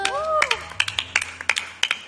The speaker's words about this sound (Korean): 내가 진짜 인정드립니다. 박수.